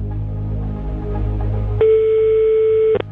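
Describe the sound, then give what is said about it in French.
A low rumble of background noise gives way to a single steady electronic telephone ring tone, loud, holding for about a second before cutting off abruptly with a click. “Allez, la première sonnerie.”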